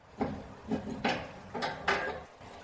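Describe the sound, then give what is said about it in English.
The door of a springhouse sheltering a magnesium spring is unlocked and opened: a handful of sharp clicks and clunks from the lock and latch, spaced irregularly over a couple of seconds, with no one talking. “now protected in the Crystal Diamond Springhouse, where Rob Lukens unlocks the door”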